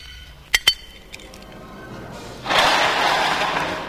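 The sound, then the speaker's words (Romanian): Two sharp metallic clicks and a few lighter rattles as the lock of a locked door is worked open, then a steady, noisy scraping rush as the heavy door is pushed open, with no voices. “O ușă ferecată. Te pomenești că aici se potrivește. Ia să deschid.”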